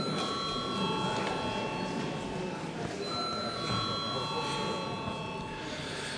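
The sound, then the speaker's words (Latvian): A parliament voting call bell rings in a steady, high, sustained electric tone, calling deputies to vote on sending a bill to committees, pausing briefly midway before ringing again, with a low murmur of voices underneath. “Lūdzu zvanu.”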